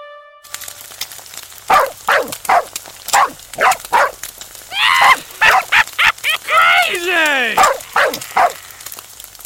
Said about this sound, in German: Ein Hund? Ein bellender Hund?